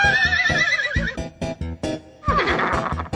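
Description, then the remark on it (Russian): A Cossack's horse whinnies loudly with a long, wavering neigh, followed by a second shorter whinny after a brief pause, with dull thumping underneath. “Садил казак ее с коня, словно мешок сбросил.”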